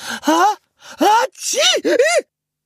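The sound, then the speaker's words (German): A voice imitates the snow-white female alpaca Petersilie sneezing in the llama stable at Gut Erlenbach after a sunbeam tickled her nose: four quick, breathy bursts in a row, each starting with a hiss and sliding into a rising-then-falling nasal tone, fairly loud. “Die schneeweiße Alpakadame erwachte von ihrem eigenen Niesen, ebenso ihr Stallgenosse Einstein, dessen wolliges Fell braun-weiß gefleckt war.”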